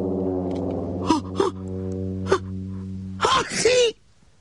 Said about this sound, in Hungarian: Alexander nagyot tüsszentett, az óriás meghallotta.